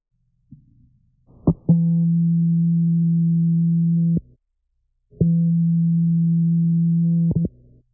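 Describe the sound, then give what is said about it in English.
Two long, steady electronic data transmission tones from a Braille Lite notetaker, about two and a half seconds each, separated by a brief gap, with short clicks and blips at the start and end of each. Loud, with no talking. “Transmitting data.”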